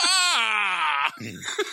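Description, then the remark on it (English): A loud, high-pitched scream by the character Robin in a Batman movie holds steady for about a second, then cuts off into a brief, lower, ragged vocal sound. “Robin screams hilariously.”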